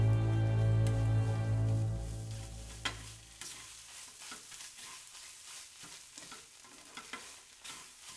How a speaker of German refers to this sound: das überflüssige Fett rann aus den Mutzenmandeln heraus und von ihnen ab, und durch die Löcher des Schaumlöffels hindurch wieder zurück in die heiße Pfanne.